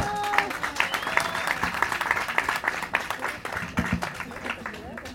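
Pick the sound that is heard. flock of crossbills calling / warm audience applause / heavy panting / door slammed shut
warm audience applause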